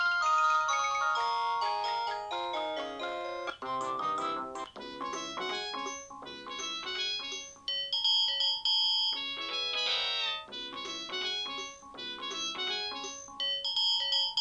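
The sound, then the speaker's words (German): A bizarre electronic ringtone plays on its own from an AVM Fritzphone handset, put there in place of the default ringtone by a firmware update: a fast jumble of bright synthetic tones hopping erratically between high and low pitches, loud and busy throughout with no talking. “was sich die Leute bei AVM gedacht haben, als sie mir die Firmware für mein Fritzphone auf mein Handset gespielt haben, weil sie haben nämlich meinen Standard-Klingelton irgendwie durch total kranke Klingeltöne ersetzt. Hier mal ein Sample.”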